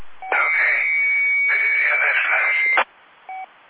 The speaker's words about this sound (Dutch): Er zit een piepje los bij jou.